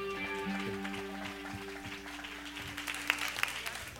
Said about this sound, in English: Pretty awesome job, huh? Your round of applause to our set designers.